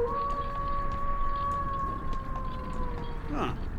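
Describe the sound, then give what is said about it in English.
A wolf howls in one long, sustained, steady note over a low rumbling background, with a brief rising wail near the end. “The wolves don't come out until after midnight.”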